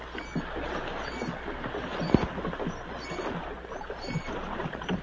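Oars dip and creak as a small boat is rowed through water alongside a ship, with soft splashes and wooden knocks over a steady low rumble, one sharp knock standing out midway.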